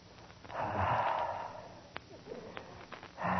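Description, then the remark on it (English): A man breathes heavily: a long, rushing exhale, a pause broken by a few sharp clicks, then another forceful breath starting at the end. No one speaks. “Look, he's breathing heavy.”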